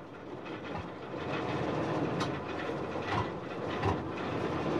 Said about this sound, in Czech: Jednou v poledne pálilo sluníčko tak mohutně, že to tatínkovo auto samo chytlo. Nejdřív jen tak bublalo a prskalo, ale za chvíli už běžel motor docela pravidelně.